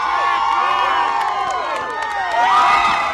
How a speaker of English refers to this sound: A crowd cheered Pawlenty at a 2005 ice fishing festival as he leaped into freezing water.